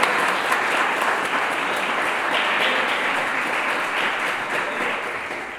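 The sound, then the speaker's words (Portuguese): An audience applauds steadily, a dense wash of many hands clapping at an even, loud level that holds throughout and tapers only slightly at the end. “Pode aplaudir, porque isso é uma verdade hoje para você também.”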